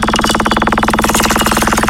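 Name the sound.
prize wheel spinning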